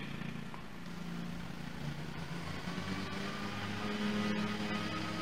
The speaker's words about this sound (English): We have a little competition with the lawnmower. Yeah, not a big yard back there.